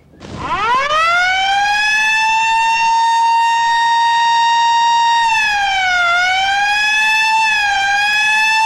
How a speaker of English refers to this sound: He climbs up to stop the siren on the ambulance roof and knocks it off.